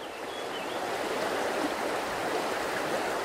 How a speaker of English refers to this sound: The mighty Mekong flows past Cambodia's capital, Phnom Penh.